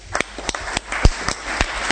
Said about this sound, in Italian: Prego, facciamo un applauso.